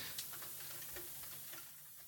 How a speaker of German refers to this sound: Im Hintergrund regnet es, ich weiß gar nicht, ob man das auf der Aufnahme hört.